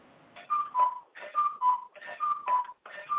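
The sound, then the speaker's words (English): A cuckoo clock calls in a steady rhythm, each two-note cuckoo stepping down in pitch, repeated three times with a fourth beginning at the end, alone without any talking. “Oh, hi, you're the cuckoo.”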